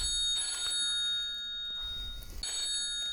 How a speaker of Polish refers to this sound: Przepraszam Państwa, ale musiałem odebrać telefon.